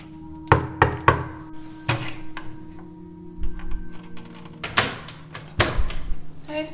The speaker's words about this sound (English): and I went back to the building to see what I could find, and I went to my old apartment and knocked on the door.